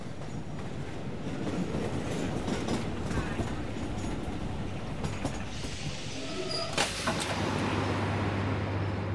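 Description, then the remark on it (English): A train rolls into Victoria Station with a steady low rumble and clatter of carriages, a sharp burst of brake hiss cutting through near the end, loud throughout. “We chatted about books until the train arrived at Victoria Station.”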